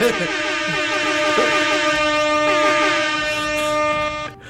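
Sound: air horn blast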